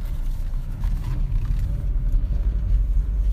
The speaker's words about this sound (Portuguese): Cara, meu carro aqui, eu acho que ele deu uma tossida. Eu dei uma freada nele aqui enquanto eu apertava pra desligar o ar-condicionado. Foi engraçado agora. Parece muito uma torcida. Depois eu tenho que olhar isso e não quebrou nada.